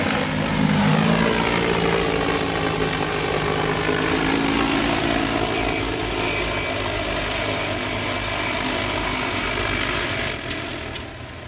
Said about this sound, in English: And so right now you can see that the drone has emptied its tank. So it will automatically land.